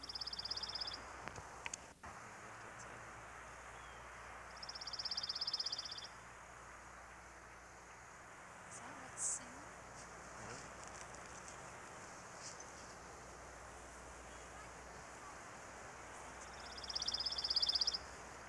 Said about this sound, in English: Pine warbler's gentle trill is a familiar sound of our pine forests.